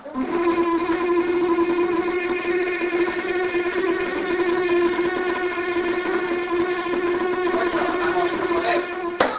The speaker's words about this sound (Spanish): Por ejemplo, esta misma mosca de la fruta que escuchamos antes Ahora la vamos a escuchar usando su zumbido de reclamo.